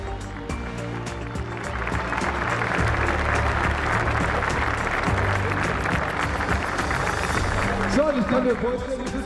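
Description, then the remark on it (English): Sustained applause from a large crowd for five historic BMW 3 Series cars, a dense steady clatter of clapping that builds and holds throughout, with faint voices and a brief tonal sound rising near the end. “And now, ladies and gentlemen, I want to see and hear another round of applause here for the five historic 3 Series BMWs.”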